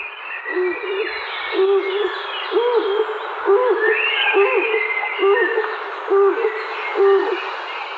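A stock dove calls with a steady series of low, hollow coos, about one per second, clear, with faint chirps of other birds in the background.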